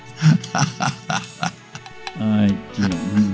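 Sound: pig oinking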